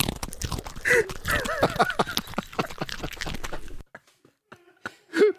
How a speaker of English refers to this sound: So with all that in mind, do you think this is the sound of my dog eating a carrot, or is it me? Is that a dog eating a carrot, or is it me?